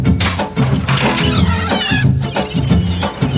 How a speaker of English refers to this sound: Nurse, get those seagulls out of here.